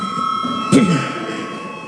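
A voting bell in a parliament chamber, called for before a vote on declaring a bill urgent, rings as a steady, sustained electric tone for the full two seconds, with a brief louder burst partway through and a low murmur of voices beneath.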